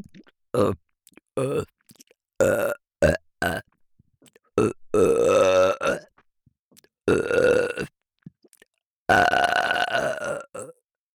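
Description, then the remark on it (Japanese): A string of big, loud surprise burps by the listener's ear, some short and punchy, others long and drawn out with a rough, rumbling tone, close to the mic with brief silences between them. “正解は不意打ち特大ゲップでした。”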